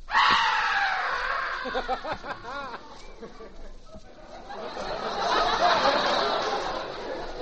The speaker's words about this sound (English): What was that? The man I just murdered. Well, how come he can scream like that if he's murdered?